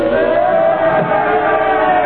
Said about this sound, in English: Crowd, they're yelling something at...